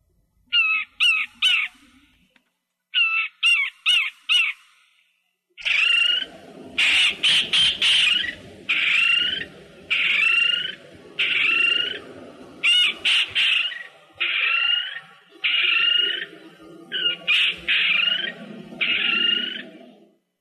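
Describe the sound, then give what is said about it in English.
Micronesian kingfisher calls recorded in 1978: loud, harsh, rasping notes repeated in a steady series, first in short quick bursts, then a long run of evenly spaced grating calls over a low rumbling background. “The calls you're about to hear were recorded back in 1978.”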